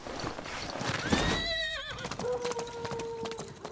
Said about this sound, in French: Nous sommes montés à cheval et nous sommes partis.